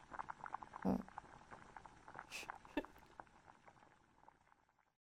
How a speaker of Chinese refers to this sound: 那当然是把锅洗一下啦，我懒得动了嘛。哎呀，我不管，我不管，你洗锅。